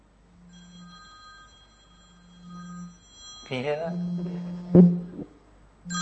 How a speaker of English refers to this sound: That's my ring. I'm just a traditionalist. I like a good old phone. A good solid phone. None of this, I don't know, whatever else you got on there. But so that's my ring.